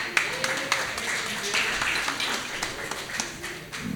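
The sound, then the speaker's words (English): An audience applauds, with a steady patter of many hands clapping that keeps going without a break. Some faint voices are mixed in underneath. “Round of applause for”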